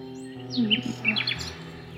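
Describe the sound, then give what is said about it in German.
A nightingale chirps in a quick burst of short, high, sweeping tweets, several notes clustered together, moderately loud over a low steady hum, with no talking. “Komm, komm schon, mein Vögelchen, lass dich fangen, komm.”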